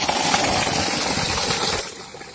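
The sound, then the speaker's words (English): A borewell pump motor giving water for people runs with a steady, dense mechanical roar and a faint mid-pitched whine, holding constant loudness before easing slightly at the end. No one speaks. “And you can see the borewell that we have put here, and it's giving water for the people.”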